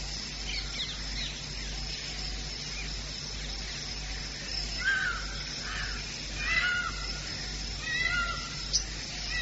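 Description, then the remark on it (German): Peacocks in Vrindavan give several loud, wailing calls at uneven intervals in the morning, over a steady hum of outdoor ambience with faint birdsong. “Die Pfauen kakeeln.”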